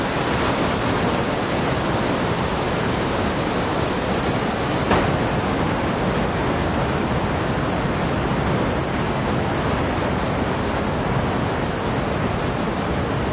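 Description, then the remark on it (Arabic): A powerful, continuous roar of strong rushing white water fills the scene, loud, as river rapids turn into waterfalls where a family of hippos braves the current, steady throughout with no pauses or voices. “يبدو أن مياه المنحدرات القوية التي تتحول إلى شلالات تعتبر مكانا خطرا على قطيع أفراس النهر، ولكن هذه العائلة تتحدى بشجاعة قوة المياه البيضاء.”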